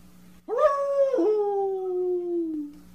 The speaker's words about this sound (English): was that a real coyote? Yep.